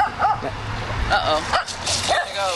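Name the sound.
dog barking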